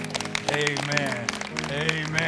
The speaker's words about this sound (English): Give the Lord a hand clap today.